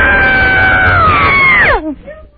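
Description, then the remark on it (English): A single loud, high-pitched human scream held steadily for over a second, then swooping sharply downward in pitch and breaking off, with no talking around it; a Girl Scout leader screams from inside a closet. “It just has to be a loud scream.”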